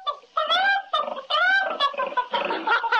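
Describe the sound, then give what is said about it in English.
A real live pig oinks and squeals while a chicken clucks, produced from a magician's hat, several short, loud bursts tumbling over one another in quick succession, with no talking. “You've got the makings all right, but I don't think I could eat a real live pig and a chicken.”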